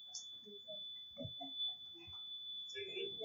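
A stuck carbon monoxide alarm sounds a single steady, high-pitched electronic tone that holds unbroken for the whole stretch, with murmured voices and movement underneath.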